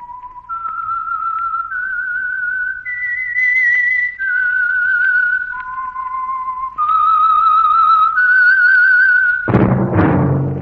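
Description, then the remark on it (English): A lone whistled melody rises and falls through a series of clear, sustained notes at steady volume, ending abruptly as a burst of orchestral music cuts in. “That whistle is your invitation to listen to the Household Finance program, The Whistler.”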